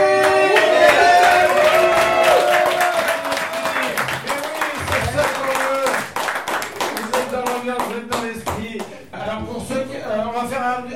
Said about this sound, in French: Un petit test par applaudissement. Qui n'est jamais venu au Moki?